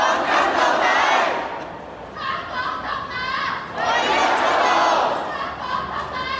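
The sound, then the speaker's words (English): A large protest crowd in the streets of Hong Kong chants slogans in unison, including "Hong Kong independence, the only way out," voices rising in two loud, sustained surges with a dip between them, over a steady roar of massed voices. “There were people chanting the same slogans as last year, but some different ones too.”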